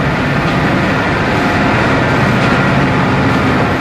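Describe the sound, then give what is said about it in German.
Loud, continuous industrial machinery din inside a coal preparation plant (coal washery), a dense unbroken roar with heavy low rumble and steady mechanical clatter from conveyor belts, machines and pipes, in dusty, very humid air, with no voices. “Wir sind in der Kohleaufbereitung. Die Bergleute nennen sie kurz Wäsche. Bei einem Höllenlärm, staubiger Luft und sehr hoher Luftfeuchtigkeit fällt es zunächst schwer, die Orientierung zu gewinnen.”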